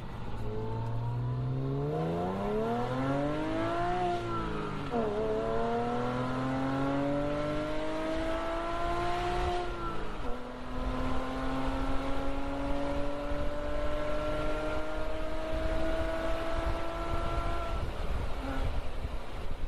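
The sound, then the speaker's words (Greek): The air-cooled 3,2 boxer engine of a 1989 Carrera Cabriolet accelerating hard, its pitch climbing steadily, dropping at a couple of gear shifts, then holding a loud, sustained drone. Continuous, with no voices. “Εγώ κατόρθωσα και έκανα τον όνειρό μου πραγματικότητα, το 1989, έχοντας την καρέρα την κάμπριο με το 3,2 το κινητήρα Boxer.”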